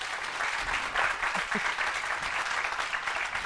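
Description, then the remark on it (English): An audience claps steadily in a round of applause for Joe Vitale for putting the event together, a dense, sustained wash of applause that stays fairly even in loudness throughout, with no one speaking over it. “And a great big round of applause for Joe Vitale for putting this together.”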